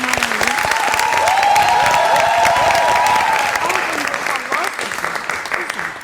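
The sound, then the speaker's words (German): A live audience at the Museum für Naturkunde in Berlin, surrounded by the new bird exhibition, claps loudly and steadily for several seconds. A dense wash of many hands is topped by a few whoops and voices before the applause starts to thin out. “Zunächst dürfen auch alle mal klatschen.”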